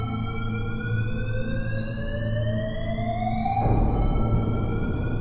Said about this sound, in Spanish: El director no tardó ni 15 minutos, justo cuando estaba llegando, se volvió a encender la alarma.